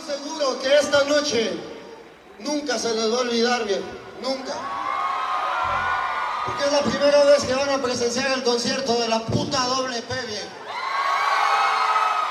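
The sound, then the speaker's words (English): A roaring crowd of thousands of Latinos cheers continuously while braving a torrential rainstorm in Nashville, Tennessee, many voices shouting and chanting together in a loud, dense wall of sound with rising whoops throughout. “But here he is, standing in front of a roaring crowd of thousands of Latinos braving a torrential rainstorm in the capital of country music, Nashville, Tennessee.”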